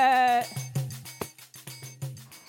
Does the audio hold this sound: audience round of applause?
no